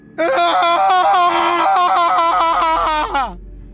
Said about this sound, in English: He jerked his head to one side, turned his face upward, and let out a demented, agonized scream.